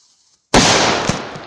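A sudden loud firecracker bang erupts after a brief silence, its broad roar decaying slowly with a small crackle a moment later. No voices are heard.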